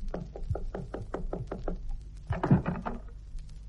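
Knocking on a boss's office door by a man about to ask for a raise: a quick, steady run of about eight even raps, followed by a brief, louder flurry of knocks before it fades. No voices are heard.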